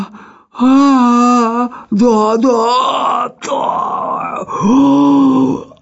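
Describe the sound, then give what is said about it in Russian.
From inside a chimney, a voice lets out a series of loud, strained groans and grunts, several drawn-out voiced efforts with short breaks between them, as someone stuck in the chimney struggles and heaves. “Затем из каминной трубы послышалось кряхтение, и голос невнятно забормотал.”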